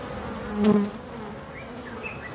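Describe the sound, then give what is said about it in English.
Honeybees humming steadily as they go about their work, a continuous buzzing drone with one bee passing louder near the start, then a softer background hum, no voices. “And listening to them hum as they go about their busy lives.”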